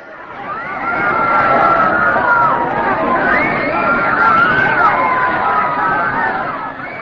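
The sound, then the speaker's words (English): A large crowd roars and howls together as Shishupal is killed, a loud sustained wall of voices with rising and falling shouts that swell in and hold steady for several seconds. “When Shishupal was thus killed, a great roar and howl went up from the crowd.”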